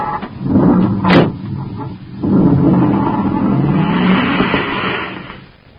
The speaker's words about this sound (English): A few moments after Duncan and Savage roar away in the commander's surface car, another space patrol car rushes to the scene to find Buzz and Happy unconscious on the sidewalk.